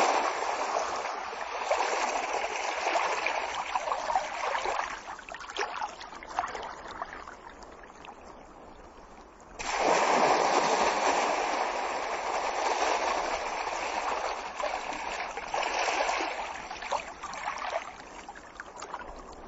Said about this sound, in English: We've had a quiet period, so the waves are not big. They're just little small waves coming in onto the beach. The roar you can hear in the background is in fact the Atlantic Ocean crashing about on some skerries in between Colonsay and